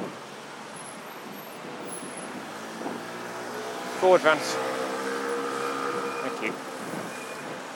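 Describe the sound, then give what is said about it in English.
A steady wash of road traffic rumbles continuously in the background at a zebra crossing by the roundabout at the foot of Lambeth Bridge, opposite Thames House, in London, on a hot, sunny day, while a voice gives a brief spoken command partway through. “London traffic famously stops for no man, or woman, or dog.”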